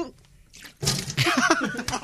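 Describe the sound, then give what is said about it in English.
After a brief hush, someone splutters and chokes on a sip of water: a sudden wet, sputtering burst, then strained, gurgling coughs and gasps, fairly loud and messy. “Try and keep the water in. Oh, I nearly choked.”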